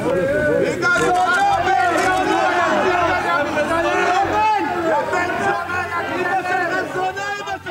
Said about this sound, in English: The crowd went crazy, yelling and cursing at the man who had killed their prime minister.